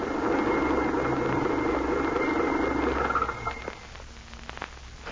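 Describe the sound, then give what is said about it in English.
A steady, low rumbling car engine idles loudly for about three seconds, then cuts out as the car stops in a pine wood off the road, leaving a quieter hush broken by a few faint clicks and taps. “Stop devil wagon, quickly.”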